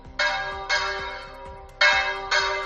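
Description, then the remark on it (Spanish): The church bells of the parish of Tortuera, in the diocese of Sigüenza, Guadalajara, ring out in a loud, resonant peal, four bright strikes in two pairs with long shimmering decay between them, no voices present. “Es el toque de las campanas de la parroquia de Tortuera.”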